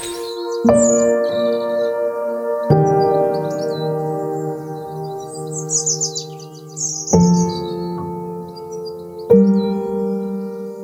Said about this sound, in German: Wobei bis jetzt sind die Vögel lauter als die Autobahn, aber das wird sich vielleicht gleich ändern.